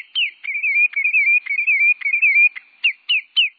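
A sandpiper perched atop a spruce tree in its nesting territory in Alaska sings a caroling song alone: a steady stream of clear, high, warbling whistles, wavering up and down, broken by sharp downslurred notes at intervals and ending in a few separate, emphatic phrases.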